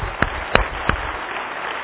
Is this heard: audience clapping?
yes